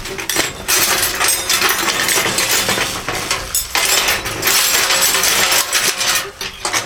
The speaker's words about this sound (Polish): Patrzcie, co to jest! Nie wiadomo, skąd to się wzięło! Ile monet! I to złotych!